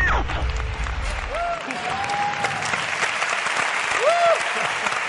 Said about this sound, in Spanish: Vaya este aplauso para el gran Antonio Esquivias